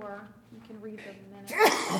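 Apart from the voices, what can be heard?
sneeze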